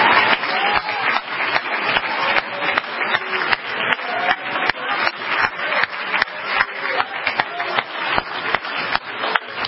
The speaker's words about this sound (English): Give this good church a hand clap. Would you do that?